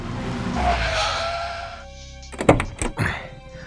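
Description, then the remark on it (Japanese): A car heading to Higashifushimi gives a steady engine hum and road rumble for a couple of seconds, then it quiets and several sharp thunks follow, like doors or the body of the car being knocked. “大場女学院まで迎えに来た魚住の車に乗り込んだ。これまでの経緯を話し、俺たちは東伏見へ向かった。”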